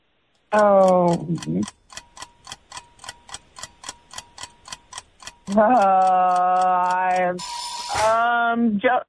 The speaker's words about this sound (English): Oh, that's the buzzer.